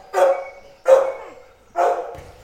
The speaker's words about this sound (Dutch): Ze zijn wel stil. Je hebt geluk. Meestal beginnen ze te blaffen als ze vreemde mensen zien.